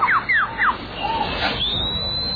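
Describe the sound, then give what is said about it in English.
A lyrebird runs through mimicked sounds: three quick downward-swooping whistles, then a jumble of chirps and a long, thin rising tone, clear with no voices. “All right, so this is the bird. I guess it's called a lyre bird, L-I-R-E, I guess is what it's called.”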